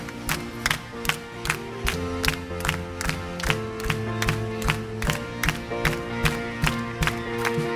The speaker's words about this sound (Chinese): 哈利路亚，我们来拍手赞美他。